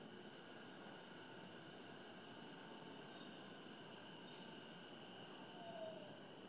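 An out-of-service train pulls away from a station with a steady rolling rumble, thin metallic wheel squeals rising above it and briefly sharpening toward the end. No one speaks.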